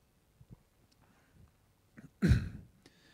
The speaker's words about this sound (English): And I'll just have a drink of water and I'll read it.